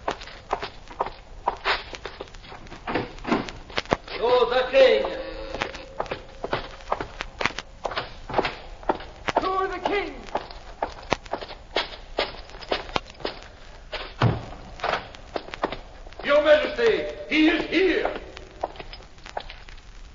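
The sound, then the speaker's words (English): Steady footsteps of a dusty cloaked rider, just dismounted, striding through door after door for twenty seconds, broken by creaking doors swinging open and shut, with a few louder thuds as each door closes. “The dusty cloaked rider dismounts and strides purposefully through door after door.”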